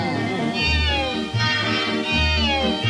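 A big cat meows loudly and insistently, a drawn-out, wavering yowl repeated about three times in close succession, unaccompanied by any speech.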